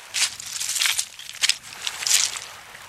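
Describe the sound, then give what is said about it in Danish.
Footsteps crunch over loose stones by the water on a completely windless day, about four unhurried steps with gritty, scraping texture, moderately loud, with no voices. “Forestil dig, at du sidder nede ved vandet, og det er helt vindstille. Du går i stenene.”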